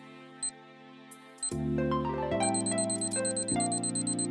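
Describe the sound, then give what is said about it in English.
A few sharp, isolated clock ticks click over a low hum, then loud sustained electronic tones swell in, shifting pitch in steps. No one speaks. “The clock starts now.”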